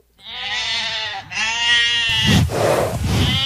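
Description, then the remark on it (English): Sheep bleat loudly: a long, wavering cry breaks briefly and resumes, then gives way to a rougher, noisier burst of bleating and scuffling. “They also took all of Israel's sheep, cattle, and donkey.”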